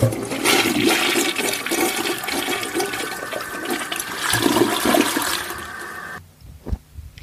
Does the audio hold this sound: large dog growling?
no